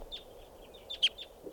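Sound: bird calling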